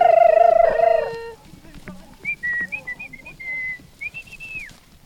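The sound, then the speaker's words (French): Parrots at a parrot farm: a strong, harmonic whistled call opens loudly, followed by a series of thin, high whistles and warbling notes with short gaps, ending in a rising then falling whistle, clear. “On était à la ferme des perroquets et c'était fabuleux d'être ici.”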